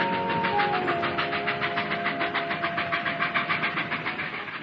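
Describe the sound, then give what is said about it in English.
A steam train chuffs steadily down the tracks toward a large platform, its rapid, even puffs loud, with a faint steady mechanical tone running underneath. No one speaks. “the train chuffed importantly down the tracks toward a great oversized platform, decorated with so many flags, streamers, ribbons, and bunting that it was a wonder the station didn't collapse under the weight of it all.”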